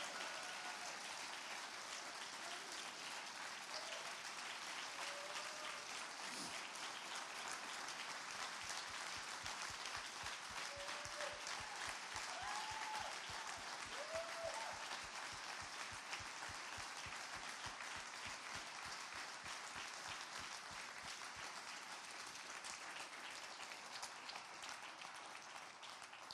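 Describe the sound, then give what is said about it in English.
An audience applauds loudly and steadily for the whole stretch to celebrate Ed, a dense, even wash of clapping with a few brief cheers and whoops rising above it now and then. “So can we just make some noise? Can we just celebrate who Ed was?”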